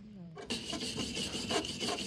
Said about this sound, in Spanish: Dean y Paul sacan brillo a los remaches metálicos de la silla eléctrica.